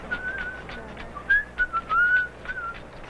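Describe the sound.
A healer whistles a soft, wavering melody of short breathy notes and brief slides, unaccompanied, with faint rhythmic rattle shakes between the notes, during a San Pedro shamanic healing ceremony in the dark.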